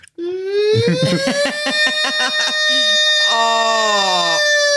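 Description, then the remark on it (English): A voice imitates an air horn with a loud, sustained, buzzy blare lasting several seconds. The pitch climbs slightly and wavers through choppy bursts, then holds steady to the end. “Can I get an air horn?”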